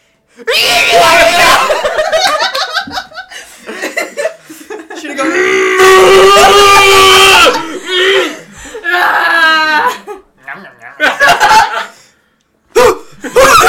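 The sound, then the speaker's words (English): Several voices imitate angry cows with loud, drawn-out, growling moos, one long bellow in the middle, broken up by laughter and short yelps, then a brief silence before a final burst. “More angry cow noises, maybe? From everyone.”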